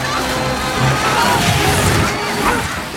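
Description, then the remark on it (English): A loud, continuous crashing and splintering din as a falling helicopter's nose plows through chairs on a rooftop, smashing them, with wood cracking and debris clattering over a dense mechanical roar and faint shouting voices of fleeing guests. “Terrified guests flee as the chopper's nose plows through the chairs, smashing them to smithereens.”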